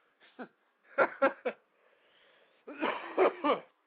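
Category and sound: human body sound, cough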